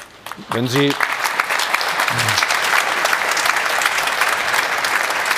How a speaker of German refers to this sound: Ich weiß jetzt nicht, ob dieser Applaus aufmunternd war oder für die Frage galt